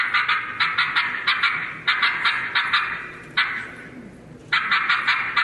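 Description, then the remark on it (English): A turkey hen yelp played on a call: several series of rapid, raspy, high-pitched yelps, each burst breaking in pitch, repeated in quick rhythmic runs with short pauses between, clear and fairly loud without talk. “I liked it because he had a little more break in his yelp.”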